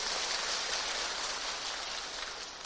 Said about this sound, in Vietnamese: Nếu ai ở đây cảm thấy mình cũng chỉ sống tri thức thường lạc, chỉ biết đủ là vui thôi, và mình đang có hạnh phúc, chúng ta cho một tràng pháo tay về điều này.